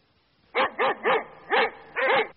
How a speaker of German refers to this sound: Hund? Der Hund.